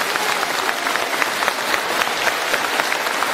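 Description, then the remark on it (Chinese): Sustained applause from a large audience seated in the middle of a gathering, a dense steady patter of many hands clapping at an even loudness for several seconds, with no voices standing out. “那对他们这么一起来听台长这法门，我觉得我们坐在当中人鼓鼓掌，要谢谢他们让给你们位置。”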